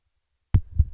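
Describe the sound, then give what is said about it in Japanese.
After a moment of silence, a microphone's built-in switch is turned off and on while the microphone is held fixed to avoid handling noise, giving a sharp thump followed by a duller second bump, a low, muffled pop rather than a crisp click. “スイッチのあるマイクの中では、比較的スイッチのボツンというですね、嫌なノイズが少ないタイプではないかと思います。”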